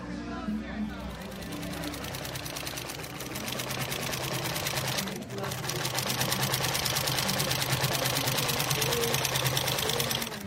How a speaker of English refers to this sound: Sewing machines are humming away at the Iowa State Fair sew-in. This is not a competition, it's a mission. The goal is to make 200 quilts during the run of the fair.